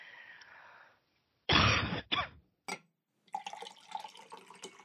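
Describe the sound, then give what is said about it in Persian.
A woman drinks a glass of water, with a soft trickle, a couple of sharp gulping or sipping bursts, then a faint clearing of the throat and quiet clinks. No one speaks. “لیوانی آب می نوشد، ادامه می دهد.”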